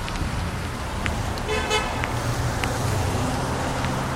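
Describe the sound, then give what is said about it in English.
Steady road traffic rumbles and hisses as cars pass by, with a short horn toot cutting through near the middle. “traffic checks and they know they could be more aware of traffic.”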